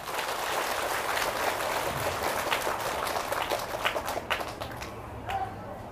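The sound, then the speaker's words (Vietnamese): An audience at a Buddhist talk bursts into sustained applause, a dense crackle of many hands clapping at once that stays steady and loud before thinning out and tapering off near the end. “Cho nên ở phương diện đó, quý vị hãy cho một tràng vỗ tay nữa.”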